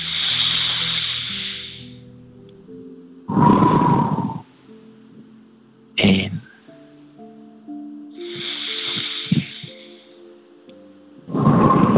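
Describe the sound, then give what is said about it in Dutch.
Slow, deep breathing during a guided breathing exercise: long airy inhales followed by heavier, rushing exhales, about two full breath cycles, over soft sustained tones in the background. “Ik stel voor van er nog 3 samen te doen. Mm-hmm. Gewoon die aandacht houden naar die ademhaling.”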